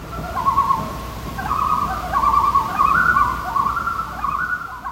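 Loons calling across open water, long wavering wails that rise and overlap one another almost continuously, fairly strong and clear over a soft low background hum, with no one talking.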